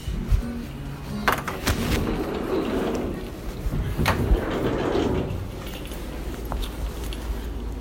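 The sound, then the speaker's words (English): A door opens amid a few sharp clicks and thumps, like a latch and handle, with shuffling movement and a steady low rumble underneath; no one speaks. Someone who has just put on shoes walks out the door, heading out to work. “Just putting my shoes on and walking out the door here.”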